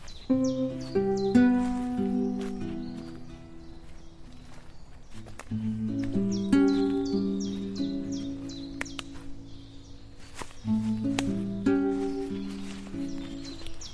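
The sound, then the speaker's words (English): Repeated bright bird chirps and short trilling calls ring out in woodland, coming in bursts over a fuller, steady background of lower sound, with soft rustling footsteps; no one speaks. “that bird song.”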